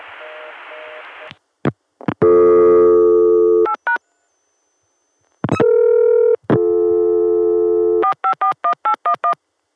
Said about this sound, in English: Let's do another. Starting with the Chicago dial tone via 454.